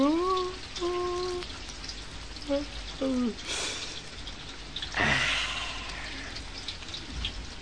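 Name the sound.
rain falling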